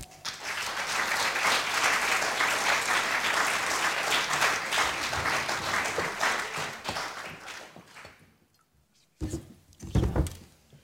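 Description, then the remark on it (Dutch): Loud audience applause as author Marente de Moor is asked onto the stage, dense and sustained for about eight seconds before fading out, followed by a brief pause and a couple of short thumps or movement sounds. “Wij zijn apetrots, dus vragen we haar het podium te bestijgen onder luid applaus.”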